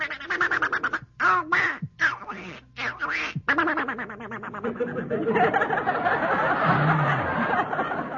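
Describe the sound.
A voice imitates the cartoon duck Donald Duck, a rapid run of nasal, squawking quacks in choppy bursts, then a longer unbroken stretch of garbled duck-like chatter, fairly loud.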